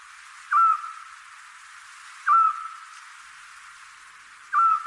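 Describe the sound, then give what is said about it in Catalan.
A Eurasian scops owl, a very small owl, gives three short, clear whistled notes, evenly spaced about two seconds apart, over a steady background hiss with no one speaking. “Doncs efectivament, això que estem escoltant és un xot, que és el meu mussol preferit.”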